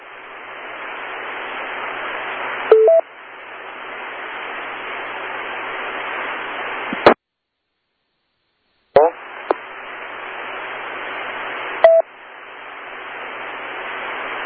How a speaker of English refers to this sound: Yeah, I hit the wrong button on the phone.